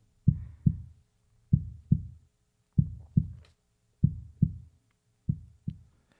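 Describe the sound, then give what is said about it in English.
A steady heartbeat sound plays from an SU1W sound therapy machine, low thumping pairs repeating about every 1.2 seconds, each lub-dub soft and bassy with a slight low hum beneath, evenly paced. “Calming. Heartbeat.”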